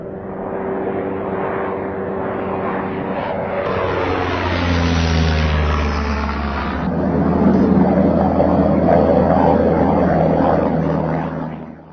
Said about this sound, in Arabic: طائرة الدرون MQ-9 من أكبر وأحدث الطائرات الأمريكية بدون طيار بمواصفات تكنولوجية عالية، يبلغ طولها 11 مترا وعرضها مع الأجنحة 20 مترا وارتفاعها عن الأرض قرابة 4 أمتار ووزنها فارغة أكثر من طنين.